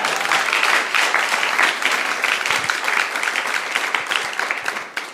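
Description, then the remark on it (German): An audience claps steadily for about five seconds, a dense, even patter of many hands that stays loud throughout and eases off slightly at the very end. “Da wollte jemand klatschen, das ist ein guter Punkt zum Klatschen.”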